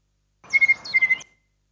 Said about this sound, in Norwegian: Nattergal. Og det var jo veldig spesielt, for den finnes jo ikke på de kanter av landet.